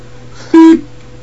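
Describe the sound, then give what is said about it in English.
A single short electronic beep, loud and steady in pitch, lasting about a quarter second over a faint background hum, with no talking. “One beep for yes, two beeps for no.”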